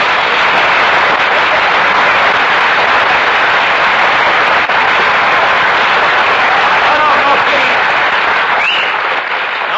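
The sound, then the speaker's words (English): A large audience at a radio broadcast claps steadily, a dense, even roar of applause sustained at full volume for about ten seconds with no letup and no voices rising above it. “No applause, no applause. The listeners will think we have a studio audience.”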